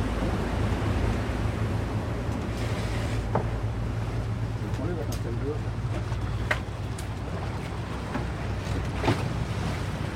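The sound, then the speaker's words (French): A passing river boat's engine rumbles steadily while water sloshes and laps continuously under a bridge at Île Saint-Germain, Val-de-Seine, Paris, with occasional splashes and faint background voices mixed into the constant low drone. “Ça fait des vagues, hein ?”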